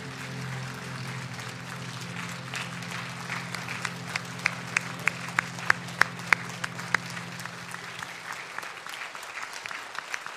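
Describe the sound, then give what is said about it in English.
An audience applauds steadily, a dense wash of many hands clapping that holds for several seconds, with a few sharper individual claps standing out before it fades away. “Let's just give them a round of applause just to show them how much we appreciate and love them.”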